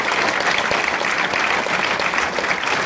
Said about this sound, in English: So obviously one of the things that's shown in the trailer, a round of applause.